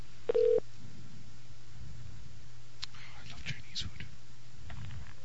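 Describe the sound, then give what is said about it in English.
A cell phone call going out to a restaurant to order food for pickup: a brief electronic tone near the start, then faint clicks and line noise over a steady low hum as the call connects. “I actually have the number saved in my cell phone. That's how much I love them. Okay, let's see if they're around.”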